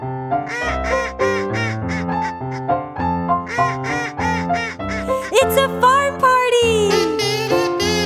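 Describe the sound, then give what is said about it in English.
A run of loud, nasal duck quacks in quick rhythmic bursts from a little duck waddling over to a pond on a farm, sounding cartoonish over a sustained musical backing, ending in a longer drawn-out squawk. “Oh, and there's a little duck, and he's waddling over to the pond. I bet he makes cute little duck noises.”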